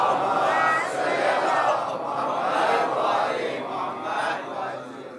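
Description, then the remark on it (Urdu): A large crowd recites salawat, "Muhammad Aal-e-Muhammad", together, many voices chanting loudly in unison with a steady, swelling rhythm that rises and falls in waves for about five seconds. “صلوات پڑھیے محمد آل محمد.”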